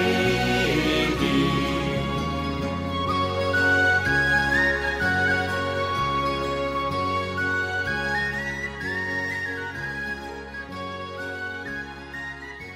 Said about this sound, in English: There was some nice whistle work on that, was there not?